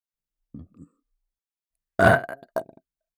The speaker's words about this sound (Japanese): いかがですか？お気に召すゲップですか？もっともっと頑張りますね。